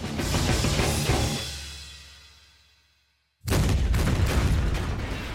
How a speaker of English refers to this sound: Another explosion rocked MechWarrior Creedon's Hellfire as his star continued a fighting retreat.